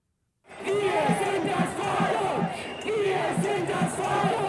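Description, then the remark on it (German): A large crowd of protesters shouts a chant in unison at midday toward the Bundestag, where the Infection Protection Act is being debated; the loud, rhythmic voices rise and fall in repeated phrases over a constant roar of many people. “So brüllen sie es am Mittag in Richtung Bundestag, wo die Parlamentarier gerade über das Infektionsschutzgesetz debattieren.”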